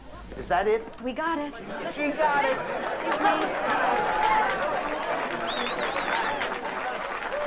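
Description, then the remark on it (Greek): Applause greets a woman returning to her department with a painting she has found, amid lively crowd chatter. Steady clapping builds after the first couple of seconds and runs on, mixed with overlapping voices. “Εκεί βεβαίως την υποδέχονται με χειροκροτήματα.”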